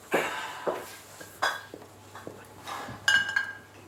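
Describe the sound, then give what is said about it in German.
A man picks his glass up from a grand piano, with several light clinks and knocks, each giving a brief bright ring, spaced irregularly over a few seconds against a quiet hum. “Er nimmt sein Glas vom Flügel und steht auf.”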